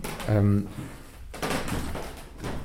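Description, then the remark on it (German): A short, loud, low-pitched creaking groan, like a door swinging open or shut, followed by about two seconds of muffled shuffling noise at moderate level. “Und etwas anderes Lustiges sind Türen.”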